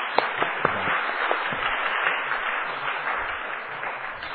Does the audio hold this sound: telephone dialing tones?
no